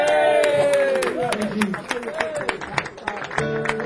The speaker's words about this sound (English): Big round of applause.